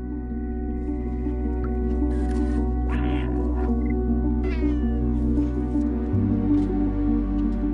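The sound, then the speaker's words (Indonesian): A cat meows a few times in a video game featuring an adventurer cat, over a steady, droning musical background, the calls short, with a low hum shifting pitch near the end; no one speaks. “Sebuah video game baru yang menampilkan sosok seekor kucing petualang telah menyentuh hati para penggemar kucing.”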